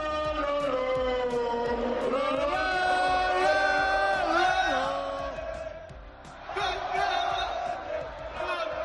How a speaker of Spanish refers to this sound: Es el grito del madridismo que celebraba de esta manera, tras su triunfo frente al Español, su 35º título de Liga.